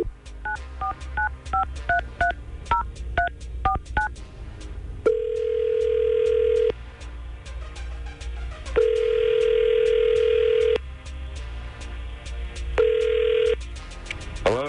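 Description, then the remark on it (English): A rapid string of touch-tone dialing beeps plays, followed by three long, steady ringback tones with pauses between them, as a radio morning crew at 99.5 QYK in Tampa Bay phones a man. No one speaks. “So we're going to try to get Eric on the phone and see what's up.”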